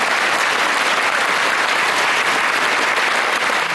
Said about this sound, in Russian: Затем были и песни, и танцы. После каждого номера зал взрывался аплодисментами. Больше 2 часов шло представление, а гости все вызывали и вызывали артистов на бис.